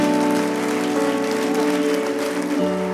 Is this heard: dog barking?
no